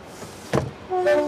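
A train arriving at a station in Paris as passengers get off: a short burst of hissing noise, then a steady high-pitched squealing tone like braking wheels or a horn, fairly loud.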